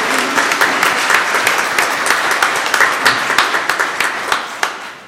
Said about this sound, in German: Vielleicht einfach auch einmal einen Applaus für die uns so das schön vorbereitet haben.